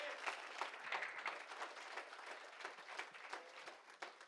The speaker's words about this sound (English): Go ahead and clap your hands to the Lord. He's worthy. He's so worthy.